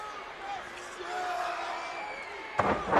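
A single heavy thud as Windham suplexes Muda onto the ring mat lands near the end, rising out of a steady, busy arena crowd murmur.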